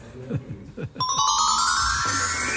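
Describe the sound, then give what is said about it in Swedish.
A telephone rings for an incoming call to the radio programme Karlavagnen: after a few soft low thumps, a bright electronic ringing tone starts abruptly and holds steady and fairly loud until the end. “Det ringer oss Karlavagnen”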